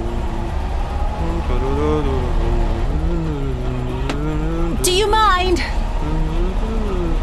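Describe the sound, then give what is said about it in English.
Someone hums the Russian folk song Korobeyniki, also the theme from the video game Tetris, in bouncy, steady, stepping notes, clear, over the constant low rumble of a car engine. A brief higher warble breaks in near the end. “Russian song, Korobeyniki. Oh. Also theme from video game Tetris.”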